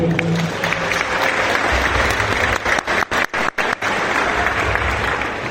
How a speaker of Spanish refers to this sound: También pido un fuerte aplauso para todos ellos.